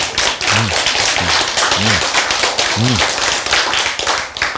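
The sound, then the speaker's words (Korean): A single person claps alone while no one else claps, steadily at a fairly quick, even pace for several seconds, the sharp claps fairly loud, with a few short low vocal sounds underneath. “이거 아무도 박수를 안 치는데 혼자서.”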